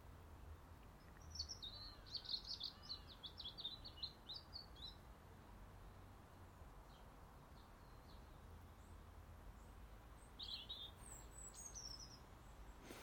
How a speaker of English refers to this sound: I have bird song and bird sounds this morning.